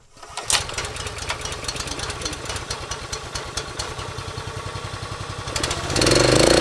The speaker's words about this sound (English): pulls the chain and revs up the log splitter